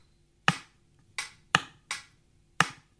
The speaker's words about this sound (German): Ich spiele nicht so besonders gut Claves und ich klatsche nicht gerne. Deswegen klopfe ich das auf meine Ukulele. Einfach mal hinhören.